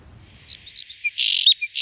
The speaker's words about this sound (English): The Scottish crossbill is unique. It's found nowhere else in the world. A bird of the ancient Caledonian pine forests. And a bird like no other. Well, not quite. It's a chunky, thick-set finch with a large head and a substantial bill.